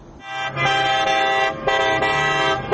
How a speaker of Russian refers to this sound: Гудящие машины, ликующие люди, фейерверки и национальные флаги. Жители иракских городов в понедельник вечером праздновали победу правительственных войск и их союзников в Мосуле.